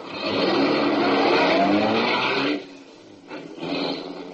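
A car engine roars loudly and steadily, drops away briefly, then revs back up again as the car drives off out beyond the city limits. No one speaks.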